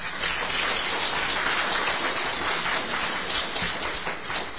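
An audience claps steadily, a dense, even wash of many hands that holds at the same moderate loudness throughout, with no voices heard.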